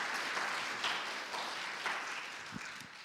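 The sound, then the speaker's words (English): A crowd applauds steadily to welcome a male guest, a dense wash of many hands clapping at a fairly even level for a few seconds with no voices on top. “Give him a nice smile and a round of applause.”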